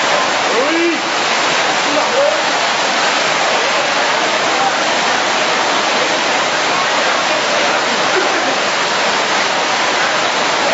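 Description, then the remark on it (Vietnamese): Steady, heavy rain pours down outside a church in a continuous, dense hiss that fills the whole stretch, with faint murmurs of voices barely poking through the downpour. “Ra mời anh chị em vô trong nhà thờ ngồi, có mưa hết.”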